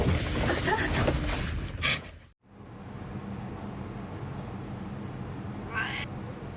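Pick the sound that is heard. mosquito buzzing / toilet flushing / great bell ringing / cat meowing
cat meowing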